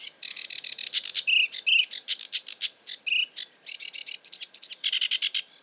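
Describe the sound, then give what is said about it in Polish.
A small songbird, slightly smaller than a sparrow and of similar colour, delivers a rapid, continuous stream of high, dry notes, broken now and then by sharper, higher squeaks; fairly loud, with no other sounds. “O, to już mniejszy ptaszek, nieco mniejszy od wróbla, ale o podobnym kolorze.”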